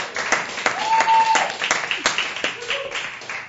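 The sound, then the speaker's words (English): A jazz crowd at Katarina's, 1920 West Irving Park Road, Chicago, applauds steadily, dense overlapping claps filling the whole stretch, with a couple of high sustained whistles rising over the clapping and scattered cheers mixed in. “Can you tell the crowd's going wild?”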